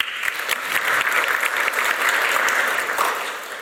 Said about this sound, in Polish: Serdeczne brawa.